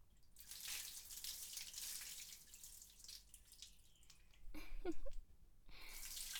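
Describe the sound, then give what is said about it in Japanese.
Hot water is poured and splashes down steadily to rinse soap suds off someone being bathed, with a louder gush near the end followed by dripping and trickling. Fairly quiet. “では、陛下、お流しいたします。”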